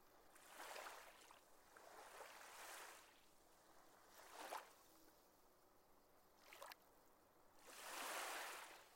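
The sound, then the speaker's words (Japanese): Waves wash onto a seashore by Minami Park at 2 a.m., in repeated hissing surges, a broad swell early, brief splashes midway, and a fuller rush at the end, with no voices. “夜の2時に南公園の方、海岸側、そこで待ってる。”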